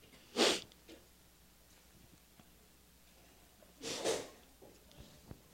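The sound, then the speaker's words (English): Two sharp, breathy sneezes a few seconds apart, the first brief and forceful, the second slightly longer, with quiet background in between and no talking. “God bless you.”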